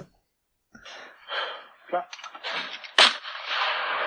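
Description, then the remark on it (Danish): Gunshot sounds of someone shooting a pigeon: a series of breathy, noisy bursts leading to one sharp, loud crack about three seconds in, followed by a lingering hissy tail. “Nå, men det er bare mig, der skyder en due, og det er så fint.”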